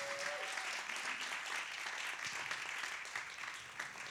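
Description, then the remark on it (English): A church audience at Bethel applauds a visiting pastor, a dense wash of many hands clapping together at fairly even loudness throughout, without any voices rising above it. “And I want you to give a big hand clap”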